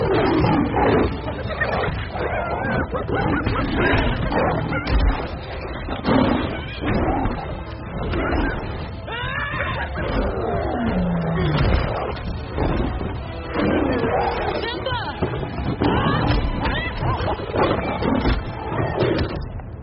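Lions roar and growl continuously in a dense, rumbling chorus as they attack, loud throughout with overlapping snarls and some squealing cries mixed in.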